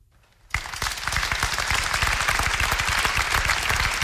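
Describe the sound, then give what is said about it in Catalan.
After a brief hush, loud applause of support breaks out all at once and continues steadily, a dense crowd of rapid claps with no voices heard, following a minute of silence in Manresa for a murdered woman. “I escolteu ara aquest moment d'aplaudiments, de suport.”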